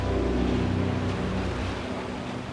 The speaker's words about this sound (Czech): Moře je pořád rozbouřený.